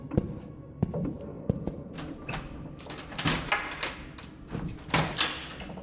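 A few sharp clicks and knocks of a knob being turned, then a creaking, scraping sweep as a heavy, oversized wooden door is slowly pushed open, fairly quiet with no voices.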